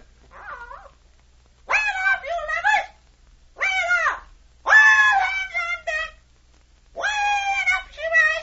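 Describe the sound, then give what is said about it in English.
A bird calls out in a string of harsh, raspy squawks, five drawn-out bursts separated by short pauses, loud with nothing else around them. “Tell us what the bird says, Captain.”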